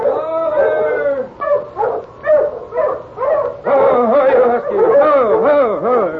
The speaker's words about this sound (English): he heard another dog team approaching from up trail.